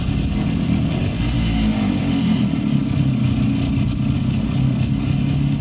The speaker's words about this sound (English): Harley-Davidson also made a single-cylinder engine that was a two-stroke engine.